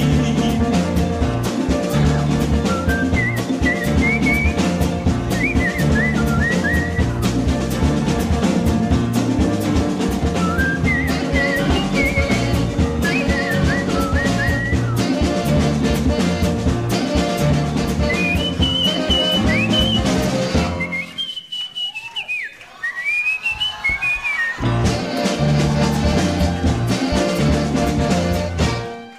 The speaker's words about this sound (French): de ses sifflotis, de ses trémolos, dans la voix, un peu du yodel parfois, de sa justesse, un peu approximative aussi, de son toucher chaloupé.